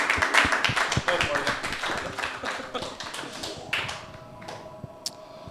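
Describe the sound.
A group applauds with dense, rapid clapping that gradually thins out and fades, ending in a few scattered, isolated claps over a faint murmur of voices.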